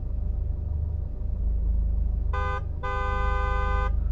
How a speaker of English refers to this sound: Oh man, I can't stand being stuck in this traffic anymore. We've been stuck in this stretch for, I don't know, 2 hours. And these bastards are still honking their horns as if it would do any good. It's just giving me a fucking headache.